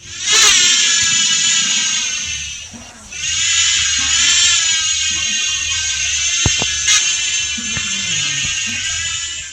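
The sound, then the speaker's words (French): A remotely controlled unmanned drone buzzes steadily with a loud, high-pitched electric whine, dipping briefly before surging back and holding a continuous, slightly wavering tone, with a few faint clicks underneath. “Ce sont des aéronefs sans humains à bord, donc commandés à distance.”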